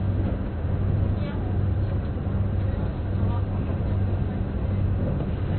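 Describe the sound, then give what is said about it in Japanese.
Steady low rumble and hum inside a moving Kintetsu Urban Liner limited express train bound for Yagi and Nagoya, a continuous droning roar with faint rattles, filling the space evenly with no one speaking. “本日は近鉄特急アーバンライナーをご利用いただきましてありがとうございます。”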